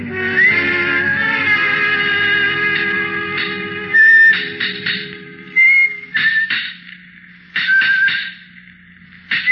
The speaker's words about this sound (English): From the yard itself came a cheery whistle, noise of hammer blows, and the cold sound of steel meeting stone.